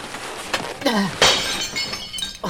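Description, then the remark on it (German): A glass vase falls from a wobbly shelf as it is being taken down, crashing and shattering in a sharp bright burst followed by scattered tinkling shards and a few smaller clinks, fairly loud with some background noise. “Schnell helft mir, die Scherben aufzusammeln.”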